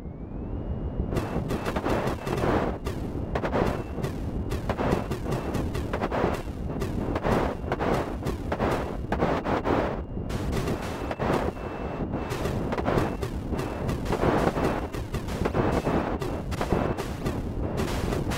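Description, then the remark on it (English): Arcade game sound effects play nonstop: rapid shooting blasts layered with booming explosions, loud and dense throughout, with a faint steady electronic tone running underneath and no voices. “But my favorite is just the impactful sound effects when you shot something. It just made those explosions that much better.”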